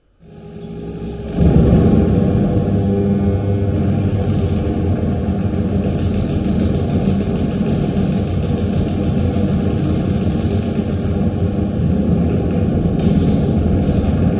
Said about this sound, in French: Donc, j'ai fait des enregistrements de séquences faites sur le Synthi AKS et j'ai tout ralenti, alors je crois que c'est 8 fois. Là. Et du coup, il y a des matières sonores qui apparaissent. Voilà. Ça devient un nouveau champ d'exploration du son.